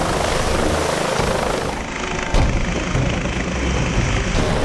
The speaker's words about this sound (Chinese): 呼号为费尔法克斯一号 （Fairfax One） 的警察直升机开始升空。